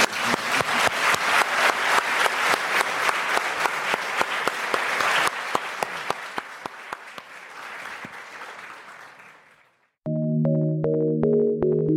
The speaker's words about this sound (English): Please, let's do another round of applause now.